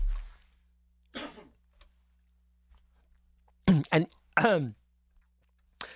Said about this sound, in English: I'm picking up where I left off. I just had to cough.